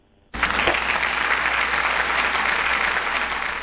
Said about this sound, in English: That's a big round of applause for Oklahoma.